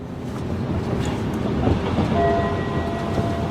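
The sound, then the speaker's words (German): A subway train on a U-Bahn line at Hallisches Tor runs steadily on its rails with a loud, continuous rumble. A thin whining tone rises above the noise in the second half, and no one speaks. “Hallisches Tor, Übergang zur U-Bahn-Linie um 6:30.”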